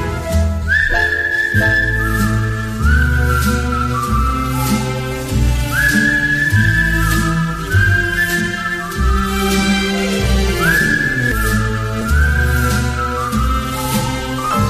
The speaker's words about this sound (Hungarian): veszem a kalapot, a kaput becsukom, s fütyülve indulok én.